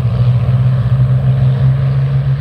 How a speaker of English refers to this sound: they rolled down the runway at the Duxford Battle of Britain Air Show in 2018. Builds to a crescendo. Here they are, the Spitfires, on the roll.